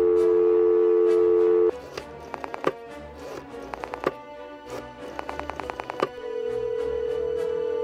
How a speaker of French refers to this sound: Il décroche le téléphone et compose un numéro au hasard.